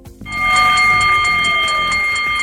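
A stock exchange opening bell, rung at midday by executive chairman Marc Puig to mark the stock market debut of the Catalan perfume company Puig, the biggest IPO of 2024 in Europe, rings loudly and continuously, a bright metallic tone with a rapid pulsing clatter, starting abruptly after a brief pause, with no voices.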